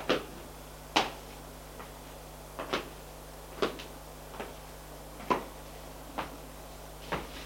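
A series of sharp wooden clunks and clicks as a woman opens the door of a house after coming down the stairs, spaced irregularly over several seconds, with a low steady hum underneath and no voices.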